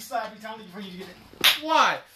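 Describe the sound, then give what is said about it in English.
A single sharp slap cracks out partway through, between stretches of voiced talking, and is followed at once by a loud, rising vocal cry. “Why do I have to be slapped?”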